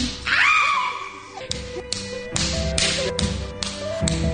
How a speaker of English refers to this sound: Can I do it again? Can we make our own video of the slap and just me slapping you?